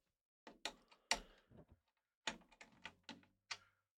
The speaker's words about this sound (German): Und versuche jetzt die Schrauben gleichmäßig anzuziehen. Ich gehe immer den weitesten Weg von einer Schraube zur anderen. Und aber über Kreuz.